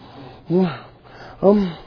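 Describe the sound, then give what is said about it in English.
A man preaching about wrath imitates heavy, angry breathing with two loud, voiced huffs about a second apart, each a forceful rasping exhale that rises and fades. “Now you're breathing hard.”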